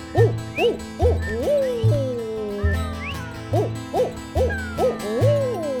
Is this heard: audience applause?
no